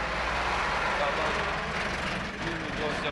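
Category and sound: vehicle, road traffic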